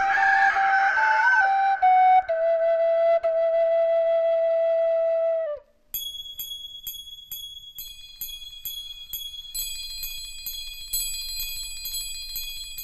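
A rooster crows once in a long, loud, drawn-out call that falls away at the end, followed by a bright run of tinkling bell-like chimes that continue to the end.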